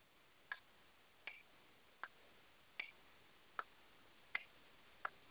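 A ticking clock played from a ticking-clock phone app: seven crisp, even ticks about three-quarters of a second apart, slightly tinny and thin, with no talking over them.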